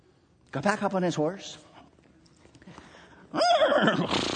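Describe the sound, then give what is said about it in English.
A person imitates a horse's neigh with their voice: a wavering, quivering whinny, a quieter pause, then a second loud, shaky burst. “And then the stranger got back up on his horse.”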